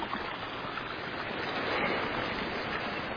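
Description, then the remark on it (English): Steady rushing and babbling of creek water flowing over rocks, a continuous wash of sound with no pauses and no voices. “And here is a creek coming along here. People say, has the creek got water in it? Well, there it is.”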